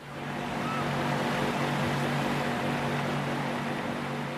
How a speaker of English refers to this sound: A pump extracts water from one of the two wells that keep Water World open.